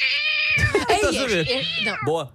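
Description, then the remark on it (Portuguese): A man from Arganil imitates a cat meowing, a long strained, wavering yowl with rising and falling pitch, loud, ending in a short extra mew. “O meu dom de imitar sons de animais é de gatos.”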